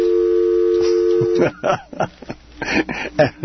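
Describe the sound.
A steady telephone dial tone on a KPFT HD2 radio broadcast hums clearly for about a second and a half as a call is placed, then cuts off as people start talking over a phone line.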